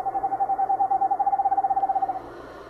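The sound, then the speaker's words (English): An eastern screech owl gives a steady, monotone trill, a rapid series of soft hooting pulses on one pitch that runs for about two seconds before stopping, with no talking. “And this is the eastern screech owl.”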